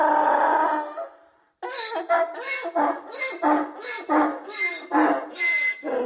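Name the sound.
donkey braying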